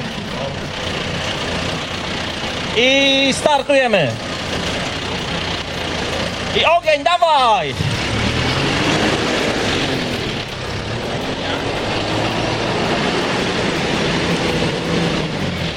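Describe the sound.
A John Deere tractor's diesel engine rumbles steadily throughout as competitor number 7 drives it in a bale-moving contest, with two sharp revving surges whose whine rises and falls in pitch. A man briefly calls out over the engine noise.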